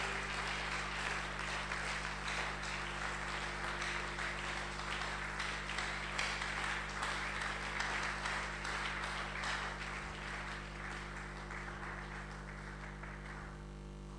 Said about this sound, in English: Oh, I think you should be clapping. Clap sincerely.